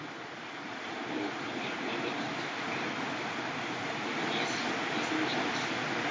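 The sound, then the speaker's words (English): Heavy rain pours down in a loud, dense, unbroken hiss that swells slightly toward the end, with no pauses or distinct drops standing out. “You hear the rain?”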